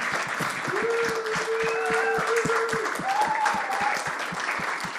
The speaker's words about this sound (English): So let's give Yahweh a big clap. Amen.